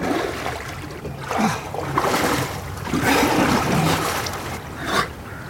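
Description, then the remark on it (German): Water sloshing and splashing in irregular surges as someone steps down one step after another into the ice-cold sea water of the Öresund, with a soft background wash and no talking. “Ich nehme eine Stufe nach der anderen ins eiskalte Wasser hinunter.”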